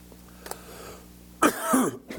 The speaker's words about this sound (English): Sorry, I was hoping this cough wouldn't follow me this morning. Seems to be doing a good job.